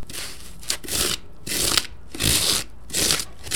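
A circular metal horse comb rasps across power-saw-cut styrofoam, shaping a carnival prop in New Orleans, in about five steady back-and-forth strokes, each a gritty, hissy scrape with brief pauses between, and no voices.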